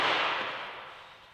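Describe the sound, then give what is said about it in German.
A single sharp hammer strike rings out with a bright, noisy crack, then fades away gradually over about a second. No voices are present. “Oh ja, es wird gehämmert.”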